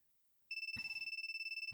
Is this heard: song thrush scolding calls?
no